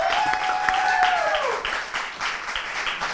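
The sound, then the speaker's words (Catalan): An audience at La Galana applauds with steady, dense clapping throughout, while a sustained high-pitched whoop or cheer rises above it for the first half before fading out. “Aplaudiment. Aplaudiment.”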